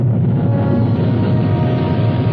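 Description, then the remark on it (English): A loud, steady rocket roar, a dense low rumble with a rough crackling texture that holds at constant strength for a couple of seconds, with no voices. “Progress is the sound of a motor, the hum of a turbine, the heartbeat of a factory, the sound of a symphony, the roar of a rocket.”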